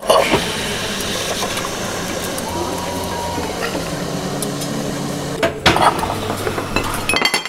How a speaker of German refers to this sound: Es ist 9 Uhr morgens in einem Kaffeehaus in der Tübinger Innenstadt. Die Kaffeemaschine läuft auf Hochtouren. Die Leute kommen hierher, weil sie nicht zu Hause frühstücken wollen.